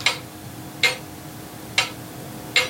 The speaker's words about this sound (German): An der Wand hängt nämlich eine alte Pendeluhr aus einer Zeit, wo die Uhren noch langsamer tickt haben.